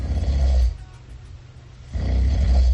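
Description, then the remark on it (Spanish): Heavy, rumbling snoring of a sleeping person in the early hours of the morning: a loud guttural snore, a brief quieter breath, then another deep snore. No one speaks. “Y el premio Amapola concluyó de madrugada con estos ronquidos.”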